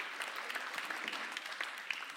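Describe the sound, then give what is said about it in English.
An audience claps steadily for a man on stage, applauding the work he does: a dense patter of many hands with sharp bright spikes scattered through it, holding an even moderate level with no voices. “Let's give him a round of applause for the amazing work that he does.”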